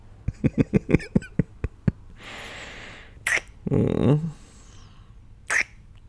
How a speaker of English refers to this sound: It's a small cough. It's okay.